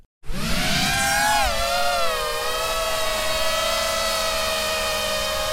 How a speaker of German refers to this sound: Dieses Surren bedeutet an der Front in der Ukraine oft den sicheren Tod. Es stammt von einer kleinen, sogenannten FPV-Drohne, First-Person-View, gesteuert durch eine Brille wie in einem Videospiel.